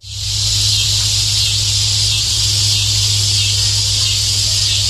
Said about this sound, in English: So this is what they sound like. This is the cicadas screaming. This is their mating call.